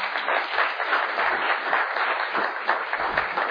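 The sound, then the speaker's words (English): A church audience applauds steadily throughout, giving God a clap after a testimony, a dense, sustained wash of many hands clapping at once, fairly loud and even with no voices rising above it. “Let's give God a clap for that testimony.”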